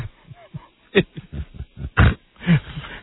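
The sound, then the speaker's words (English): Horses mating, heard as a run of rhythmic low grunts and heavy snorting breaths, loud, with several harsher bursts breaking through the steady panting. “Where is my horse sex tape?”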